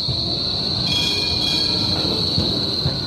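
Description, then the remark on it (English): An S-Bahn train in Berlin, Germany, rolls steadily along the tracks with a sustained high-pitched wheel squeal over a low, continuous rumble of railcars, loud, with no voices. “That's the S-Bahn tram in Berlin, Germany.”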